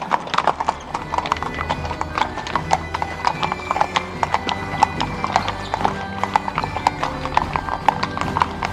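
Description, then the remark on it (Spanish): A horse-drawn tartana rolls away to a steady clip-clop of hooves, crisp rhythmic knocks repeating evenly and fairly loud for the whole stretch. “De nuevo, se subió a la tartana y se fue.”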